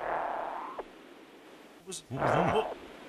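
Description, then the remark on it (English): A parrot named Zippy growls at a phone while pecking it: a brief low rumble, then a longer raspy, wavering growl lasting about half a second, over steady background hiss. “He's just growling at the Was the that phone.”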